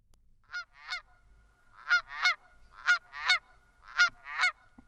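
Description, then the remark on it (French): Canada goose honking in paired two-note calls, repeated three times in a steady rhythm, clear against a quiet background with no talking. “En quatrième position, la Bernache du Canada avec 1883 votes.”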